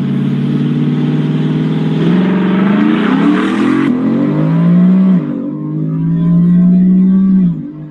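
A single cab truck's engine roars hard as it accelerates down a drag strip, its pitch climbing steadily and dropping briefly at each gear shift before climbing again, loud for the whole run.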